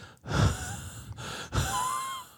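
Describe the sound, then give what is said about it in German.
A voice imitates an anonymous night-time phone caller's heavy, wheezy COPD-like panting: two long, rasping breaths in a row, each with a thin whistling tone riding on it, fairly loud. “Nein, es war ein COPD-Hecheln.”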